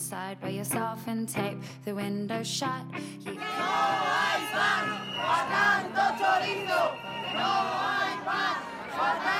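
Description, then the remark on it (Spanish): A crowd of activists at the Salón Inmobiliario de Madrid chants housing protest slogans such as 'Fuera buitres de nuestras casas' in a loud, rhythmic unison, with short punchy syllables at first, then breaking into overlapping shouts and cries that stay strong throughout. “Fuera buitres de nuestras casas o casas sin gente y gente sin casas, estas y otras consignas gritaban las activistas durante la celebración del Salón Inmobiliario de Madrid en su última edición.”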